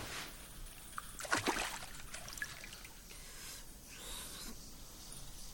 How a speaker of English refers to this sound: Oh, look at there. The eastern part. There is a narrow stream of water which is flowing from the ceiling, pouring into a pool at the cave's foot.